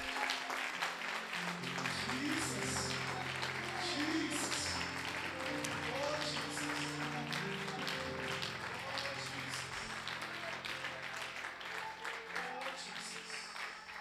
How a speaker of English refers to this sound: Let's stand up and honor the man of God right now and clap hands for Jesus. Let's just stand up.